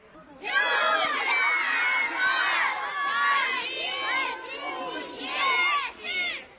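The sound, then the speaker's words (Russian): An outdoor crowd filling a forest at a festival shouts together, joining in a Belarusian-language folk game, in a loud, sustained chorus of many overlapping voices, rising and falling in waves for several seconds, with some higher, childlike voices mixed in. “Шматликая публика, якая наполнила лес, так само подхопливала мовную гульню.”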